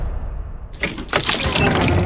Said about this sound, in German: Keine Sorge, so knarzig klingen die Türen nicht da im Le Fay Resort. Ist eher ein symbolisches Geräusch.